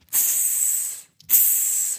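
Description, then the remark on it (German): Two long, sharp hisses of a giant snake, one right after the other with a brief pause between, each lasting nearly a second, fairly loud with no other sounds. “Riesenschlange.”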